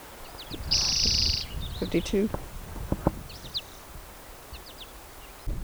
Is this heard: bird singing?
yes